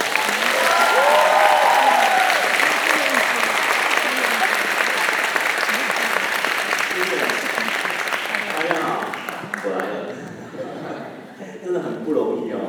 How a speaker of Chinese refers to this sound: 我们试试用最最最最热烈的掌声欢迎